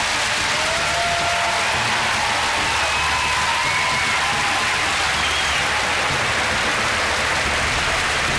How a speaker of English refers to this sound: Good luck. I think he deserves a huge round of applause.